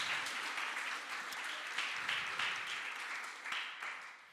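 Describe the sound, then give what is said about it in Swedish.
An audience breaks into steady, sustained applause, many hands clapping together in a dense wash of sound that holds at an even level for several seconds. “Tack så mycket! En applåd”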